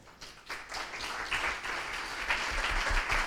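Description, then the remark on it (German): An audience applauds steadily, a dense wash of many hands clapping that starts softly and swells to a sustained, fairly loud level, with no voices over it. “Noch einmal ganz großen Applaus für den Anselm.”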